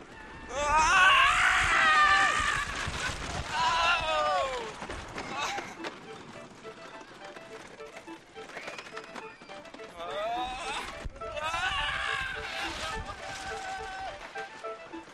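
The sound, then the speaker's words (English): Riders on the Cyclone roller coaster at Coney Island, recorded in 1997 on its 70th anniversary, scream together on the 85-foot big drop, with loud, wavering high-pitched screams in two long bursts and a rattling, rumbling ride noise underneath, quieter in between. “It says remain seated because we're at the big drop, 85 feet.”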